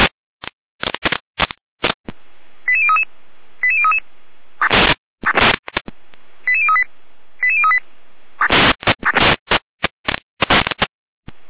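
Fire brigade radio alerting tones from the Jena control centre, alerting fire brigades of Unterwellenborn, Kamsdorf and Könitz to a fire alarm at an AWO psychiatric residential home in Unterwellenborn: short runs of stepped electronic beeps repeat several times, broken up by loud, harsh bursts of crackling radio noise, with no voices.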